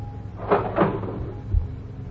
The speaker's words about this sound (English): Open the cash register. Believe me. Open it, Mr. Wrigley. Okay.